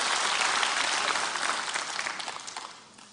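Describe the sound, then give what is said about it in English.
Audience applause: dense, sustained hand clapping from a church audience giving the Lord a hand clap, fairly loud at first and gradually tapering off over a few seconds, with no voices over it. “Can we give the Lord a hand clap for that?”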